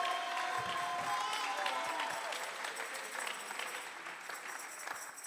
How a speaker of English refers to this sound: Come on, clap your hands all over this house. O aplauden sus manos.